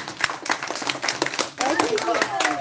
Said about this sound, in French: Qui m'a parlé de concurrence ? Bravo. Applaudissements général pour monsieur.